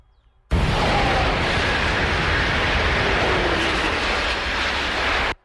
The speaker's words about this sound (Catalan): Som a menys de 50 metres de les línies d'alta velocitat per on passen els trens de llarg recorregut que no paren a la ciutat de Lleida. Fa un moment sentíem el soroll d'un tren que passava, l'hem enregistrat. Això és el que sentíem.